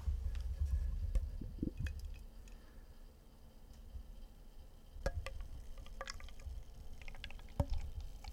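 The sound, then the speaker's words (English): A beer called Winter Zone is poured into a glass, a steady low gurgling splash with a soft fizzy hiss and a few sharp clinks scattered through it. No one speaks. “I'm going to crack it open. Ah, what a satisfying sound. Give it a pour.”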